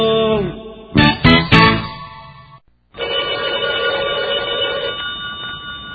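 A telephone rings in a few quick, bright bursts, followed by a short pause and then a steady, sustained electronic tone. The sound is fairly loud, with no voices.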